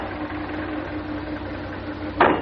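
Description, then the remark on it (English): A taxi engine idles with a steady, low, throbbing rumble that holds even throughout, then a short, louder burst of noise breaks in just before the end. “It's very kind of you to let me share your taxi.”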